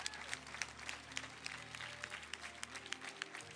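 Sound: audience clapping hands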